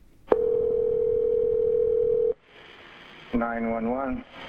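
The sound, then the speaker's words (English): A 911 emergency call reporting a fire near Wagner's Campground rings on the line: one steady, two-second electronic ringback tone, followed by a hiss of open-line noise and then a brief voice as the call is answered. “They decided to call 911.”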